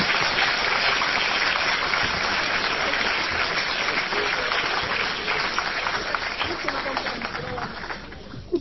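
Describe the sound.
Sustained audience applause, a dense crackle of many hands clapping for several seconds, gradually thinning out near the end with faint voices underneath.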